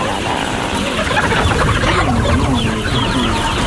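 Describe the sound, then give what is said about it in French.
A dense chorus of many light brown to red chickens clucking and murmuring together inside a poultry house, a continuous busy flock sound with overlapping calls, fairly loud and steady throughout. “Ça fait comme un tapis de poulets de poulet.”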